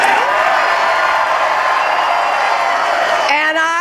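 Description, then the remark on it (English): A big crowd of supporters in a ballroom at the New York Sheraton roars and cheers continuously at full volume as it greets Hillary Clinton, a dense wall of many voices, with one voice rising above the din near the end. “In a ballroom at the New York Sheraton, where many victories have been celebrated over the years, Hillary Clinton was greeted by a roaring crowd of supporters.”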